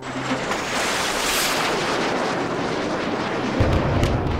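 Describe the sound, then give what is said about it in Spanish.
An atomic bomb explosion: the uranium bomb dropped on Hiroshima on 6 August 1945, engulfing the city in a firestorm. A loud, sustained roaring rumble holds steady for several seconds, with a deep booming surge near the end. No voices. “El 6 de agosto de 1945, una bomba de uranio envolvió a Hiroshima en una tormenta de fuego.”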